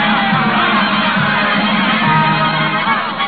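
A large circus crowd cheers and roars continuously for a trained seal act in the ring, a dense, steady wall of voices that stays loud throughout, with no single speaker standing out.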